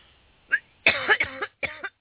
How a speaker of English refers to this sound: Excuse me. Trying to swallow common core always makes me cough, ladies and gentlemen.